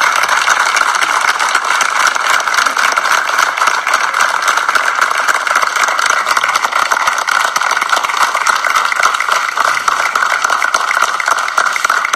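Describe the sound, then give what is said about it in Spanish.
At a small, simple community ceremony honoring a diploma recipient, a crowd applauds steadily for about twelve seconds, a dense, even roar of many hands clapping at once, loud and unbroken, with no voices rising above it. “Así que bueno, en este pequeño y sencillo acto, pero como decíamos, no menos importante, primero quiero que todos le brindemos un muy fuerte aplauso, porque se lo merece.”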